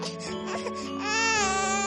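A baby cries, a short wailing burst that rises into a sustained, high-pitched cry, heard alone with no talking.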